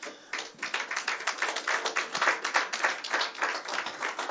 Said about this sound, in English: I understand why you're clapping that way. It's okay.